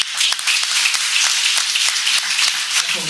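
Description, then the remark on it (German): Steady audience applause, a dense wash of many hands clapping with sharp crisp transients, sustained at an even, fairly loud level throughout without any voices. “Jetzt haben wir schon ordentlich Applaus”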